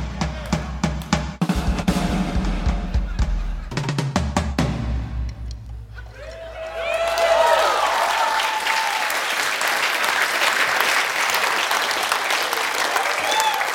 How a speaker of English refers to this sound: You shouldn't have clapped. You should have been like, ugh.